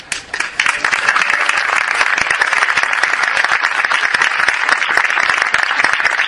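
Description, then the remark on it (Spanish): Sustained audience applause, dense and steady, with many overlapping claps forming a continuous crackling roar that starts abruptly and holds at full level throughout, loud. “personas que los tienes ahí dispuestos para lo que hagan falta, con muchísimo ánimo, empujándome siempre, y de verdad eso se merece un aplauso, ¿eh?”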